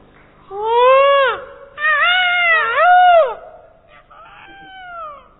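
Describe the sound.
A person imitates a peacock's call: three loud, rising-and-falling wailing cries in quick succession, followed by a softer, shorter fourth cry, with no other speech.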